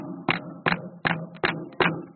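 Six steady knocks on what sounds like a wooden surface, evenly spaced, each a hollow thud with no voices over them.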